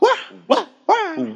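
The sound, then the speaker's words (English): A voice imitates a dog barking: three loud, strained bark-like yelps in quick succession, the last one stretched into a longer howling whine. “They pray like dogs. They bark.”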